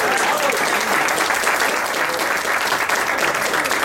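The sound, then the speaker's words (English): A crowd claps steadily, a dense, continuous wash of applause that holds at an even loudness for a few seconds with no voices standing out. The applause is for a teacher named Newington Teacher of the Year. “So how about a round of applause for that?”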